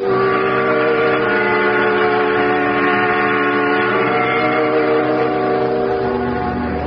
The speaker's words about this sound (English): Outside, the wind whistles and the snow falls.